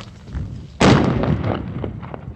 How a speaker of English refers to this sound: And just to make sure nobody drove around it, they used explosives to blast trenches in the desert to the side. Fire in a hole, fire in a hole, fire in a hole.